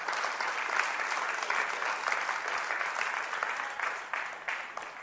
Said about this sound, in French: Oui, on va applaudir le nom de Jésus.